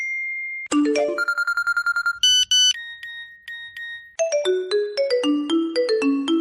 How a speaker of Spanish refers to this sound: cuando el tren llegó a la estación de Batán, que es la primera que hay en superficie en la línea 10 desde Puerta del Sur, empezaron a soltar todos los teléfonos a la vez. A todo el mundo nos empezaron a entrar llamadas perdidas, avisos de mensajes.